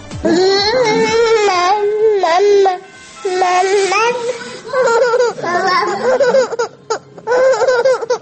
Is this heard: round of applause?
no